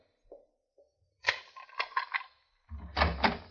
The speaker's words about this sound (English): Open the door,